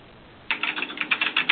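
Rapid computer keyboard typing starts after a brief quiet moment, a quick irregular run of light clicky keystrokes, close and fairly clear, with no voices.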